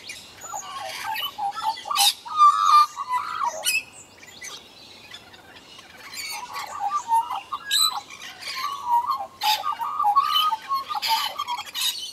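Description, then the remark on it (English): An Australian magpie sings a warbling, flute-like song of gurgling and cooing notes, rich and varied, continuing in bursts with short pauses and no talking. “In case you've never heard an Australian magpie, here's an example of its strange, flute-like, cooing or gurgling song.”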